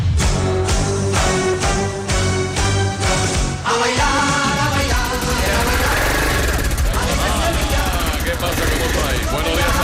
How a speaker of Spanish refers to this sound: Es que, fíjate qué pasada, tío. Que pero qué ruido. Pero, ¿cómo te vienes con el patinete esto, hombre?